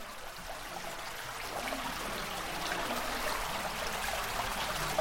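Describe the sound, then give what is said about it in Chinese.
A small stream babbles and trickles steadily along the left side of the Wind Road, a lit cave passage about 200 metres long: a continuous bright watery rush at moderate volume with no voices, unchanging throughout. “风之路全长约为200多米，左边有一条小溪潺潺流淌。”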